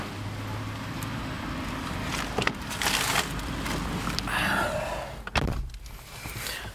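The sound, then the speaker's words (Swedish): People getting back into a parked car after shopping: rustling and shuffling movement, a couple of car door thuds, and another sharp door slam near the end, with no talking. “Så, då är vi färdiga med shoppingen och sitter i bilen igen.”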